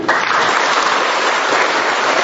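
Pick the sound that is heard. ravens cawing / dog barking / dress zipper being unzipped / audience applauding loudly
audience applauding loudly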